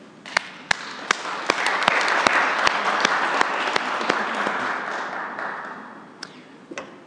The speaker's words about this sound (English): And I think you all owe yourselves a great round of applause for taking that leap of faith.